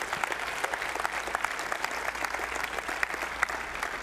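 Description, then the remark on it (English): An audience claps steadily for about four seconds as a clap offering to the Lord, a dense, even wash of many hands with sharp individual claps popping through, no voices standing out. “So let's give the Lord a clap offering.”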